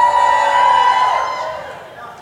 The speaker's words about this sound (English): Let me have a cheer for the, if this is the good side, let me have a cheer. If this is, if that's the good side, let me have a cheer.